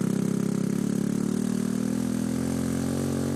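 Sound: motorbike engine running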